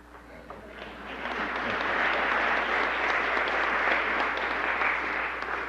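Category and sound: crowd, audience applauding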